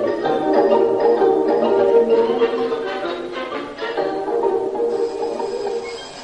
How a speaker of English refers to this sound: Gert, while you're up, switch off the alarm. I'm not up. Well, get up and switch the alarm off. All right. Here, Daisy's alarm's gone off too soon. It's still dark.